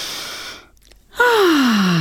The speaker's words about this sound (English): You'll hear me breathing audibly from time to time.